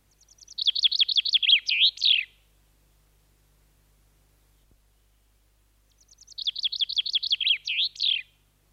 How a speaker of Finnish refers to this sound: Se on nopea, avoin ja kirkas. Peipon rohkea metallinkirkas liverys kuuluu kauas, ja peipon heläytystä kuullaan Suomen kesässä paljon, sillä peippo on maamme toiseksi runsaslukuisin lintu.